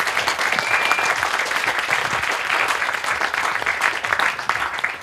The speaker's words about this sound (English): Final question? No? Can I have a final applause for